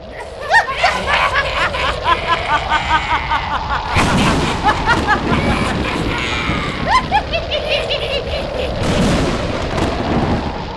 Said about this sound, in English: Suddenly, dark clouds appeared over the camp of the Guru. There was a loud thunder and crackling lightning as the forces of destruction were sent towards Guru Tegh Bahadur and the Sikhs.